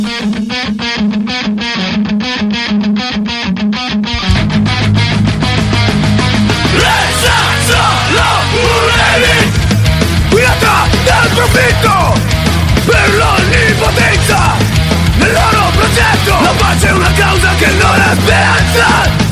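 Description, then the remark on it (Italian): A loud band song with shouted vocals over distorted guitars and pounding drums, opening with a choppy, stop-start riff before the full band crashes in and keeps driving. “cambia di nuovo la band, sono partiti …”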